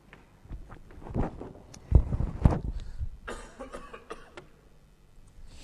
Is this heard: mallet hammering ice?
no